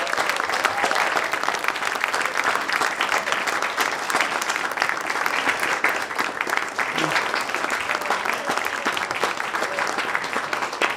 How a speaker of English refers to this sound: So what I'd like to do as we end is to have one more round for all the storytellers. Stand up, guys, so we can applaud you and our musicians.